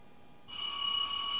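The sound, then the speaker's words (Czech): A doorbell rings after a moment of quiet, a bright, high-pitched electronic tone that holds steady and grows slightly louder to the end. No one speaks. “Ježiš, už zase někdo zvoní.”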